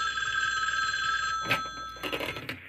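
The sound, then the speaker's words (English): A telephone bell rings with a steady, bright metallic tone, then cuts off abruptly into a few clattering thumps and rustles, like the receiver being snatched up. “Once, when the phone rang, I grabbed it.”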